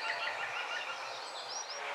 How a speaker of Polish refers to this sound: No, przyroda wybucha w maju pełnią swoich wdzięków, kolorów, zapachów, dźwięków też. Witamy dzięcioła zielonego.